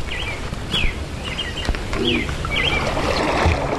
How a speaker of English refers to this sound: It's just getting away from the cell phone and the television, even music and electronic noise, and it's just hearing nature. Just listen to the birds now. It's great.